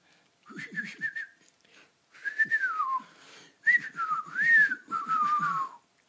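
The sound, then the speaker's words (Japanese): A person whistles in speech-like bursts imitating a whistled language, the pitch gliding and wavering up and down across several phrases as if talking, fairly loud, with short pauses between phrases. “もうみんな喋るの禁止にしてうるさいから 口で口笛で喋 る”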